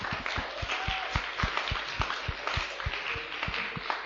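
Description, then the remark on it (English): Many people applauding, a dense, steady patter of many hands clapping, continuous for the whole stretch with no voices on top. “Give him a clap!”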